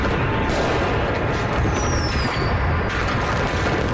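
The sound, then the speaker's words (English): A dense, continuous barrage of loud fireworks explosions, with booms and crackling packed together and a brief rising whistle streaking through the middle. “Should have gave the trigger warning for veterans.”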